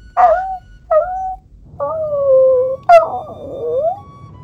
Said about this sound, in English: Is that an actual dog? That was me. That's my dog is right here whining because he's trapped in the basement with me, and he doesn't like it.